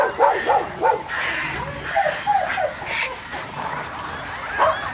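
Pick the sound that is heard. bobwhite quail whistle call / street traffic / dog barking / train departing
dog barking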